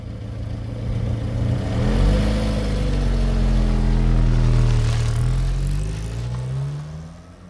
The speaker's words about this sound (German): Er sieht noch, wie der zweite Mann, der Fahrer, zurückkommt, in den Wagen springt, startet und davonbraust.